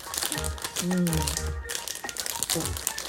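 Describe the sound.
Crinkly plastic wrapping being torn and crumpled open on a packaged yomogi (mugwort) sweet topped with azuki beans and filled with red bean paste: a run of sharp crackling rustles with a brief voiced murmur partway through.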